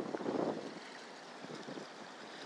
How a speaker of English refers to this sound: I think you can hear the water. It's definitely watery sound, which I suppose is not surprising given we're coming down to the Thames.